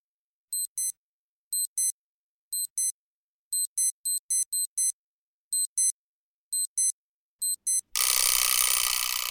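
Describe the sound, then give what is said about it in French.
An electronic alarm clock beeps in quick pairs of high, shrill tones, repeating steadily for several seconds before a sudden burst of loud, rough noise cuts it off. “Moi, j'ouvre les yeux au moins 1 heure avant que mon réveil sonne.”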